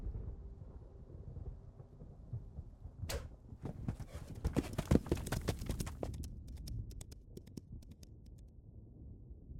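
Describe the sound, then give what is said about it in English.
A horse gallops hard, hooves pounding in a fast, uneven rhythm over a deep rumbling background, the beats growing sharper and scattered toward the end. No one speaks. “You are an accomplished rider.”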